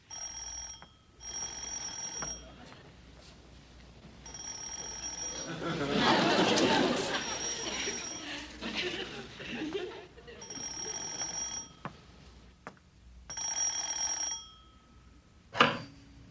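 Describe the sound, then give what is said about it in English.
A telephone rings in short, bright repeated bursts separated by pauses, with a louder stretch of noisy commotion and muffled voices in the middle of the sequence. “Is it working? Yeah. Yeah, I hear it ringing.”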